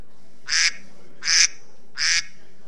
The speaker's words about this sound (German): Es quakt nach einer Minute, wenn der eine wechseln soll. Das war jetzt eine Minute, jetzt wechselt ihr bitte.